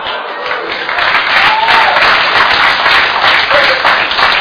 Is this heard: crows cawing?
no